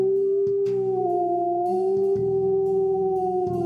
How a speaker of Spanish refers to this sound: La quijada se me desencajó, haciéndome aullar de dolor mientras que mi hocico se alargaba favoreciendo la posición de mis colmillos.